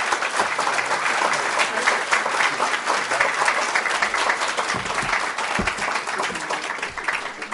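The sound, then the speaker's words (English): A large audience applauds steadily for Senator Harris Wofford as he is welcomed to the stage, a dense wash of clapping hands that holds at a fairly loud, even level throughout with no one speaking over it. “Would you all please give a big round of applause for Senator Harris Wofford?”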